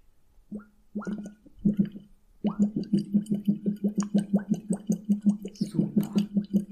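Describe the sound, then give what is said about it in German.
Bubbling made by exhaling through a hose into water as a voice exercise, starting with a few short bursts, then settling into a steady, fast, low chugging pulse that mimics a tractor engine. “Das klingt doch wirklich nach einem ganz famosen Trecker.”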